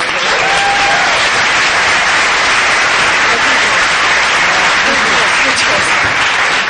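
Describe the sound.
An audience claps steadily for several seconds, a dense, even patter of many hands with a faint murmur of voices underneath.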